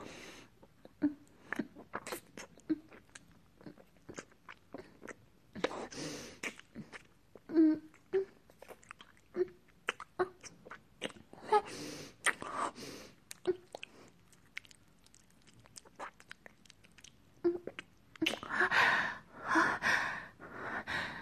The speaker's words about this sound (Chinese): 我会用舌头舔舐着你的舌头。像嚼吱吱的蛇，深深的吻在一起